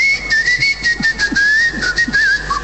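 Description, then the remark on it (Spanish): A person whistles a continuous, wavering tune, the pitch sliding and warbling without a break, over faint background noise with a few soft low thumps. “Venía a chiflar acá arriba, dice.”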